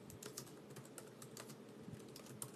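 Quick, irregular clicking of keys on a computer keyboard, fairly soft, with uneven gaps between taps as someone types slowly with one hand; no voices.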